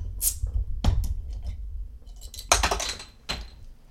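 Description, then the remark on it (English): A bottle of porter beer cracked open: a brief sharp hiss of escaping gas, then a few scattered metallic clicks and clatters from the cap, moderately loud with no talking. “So I'm going to crack it open now and see what it's all about.”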